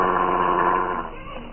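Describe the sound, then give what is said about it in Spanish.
A big mastiff snarls and growls in one continuous, rough rumble, fairly loud, easing off slightly toward the end with no talking over it. “¡Quédate quieto, maldito perro!”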